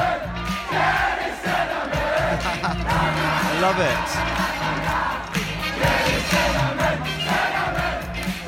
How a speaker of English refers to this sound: Listen to the chant.